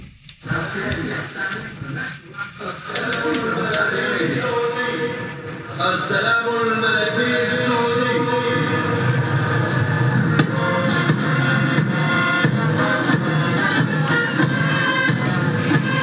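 A group of instruments played badly, with shaky, out-of-tune notes that wander and clash. They sound like a school recorder class, filling the whole stretch loudly and continuously.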